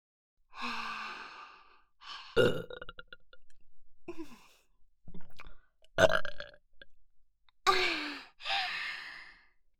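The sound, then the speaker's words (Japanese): Several loud, close burps in a row, some long and rumbling, others short, separated by breathy sighs and exhalations, with no speech. “もっと臭いゲップたくさんかけてあげるから”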